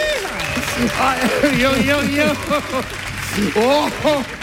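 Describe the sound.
An audience applauds steadily while several voices shout and cheer over the clapping, their rising and falling calls overlapping throughout.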